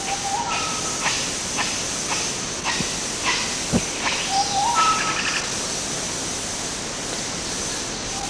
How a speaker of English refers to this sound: Chiss and a couple of nyaw barks, 1127. Same data. RUR group of red colobus at Ngogo.